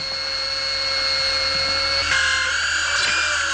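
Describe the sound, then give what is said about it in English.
A dental drill drilling into a healthy tooth whines steadily at a high, loud pitch. Its tone shifts slightly partway through before settling again. No one speaks. “So, I'll just drill into a healthy tooth until I reach the pulse.”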